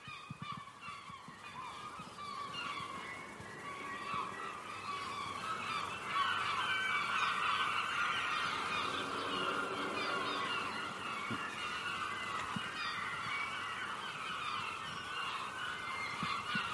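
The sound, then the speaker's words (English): A noisy chorus of herring gulls in Aberdeen calling, many harsh overlapping cries and yelps running continuously throughout, fairly loud, with no talking. “I mean, some people hate herring gulls, but it's a lovely sound.”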